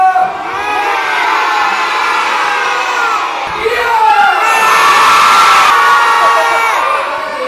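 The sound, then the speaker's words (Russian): A large crowd of young children in a theatre audience shouts and roars together at a wolf-cub character who wrecked a classroom in the play, a loud, sustained clamor that swells toward the middle before easing off, many high voices overlapping at once. “Какой это рев?”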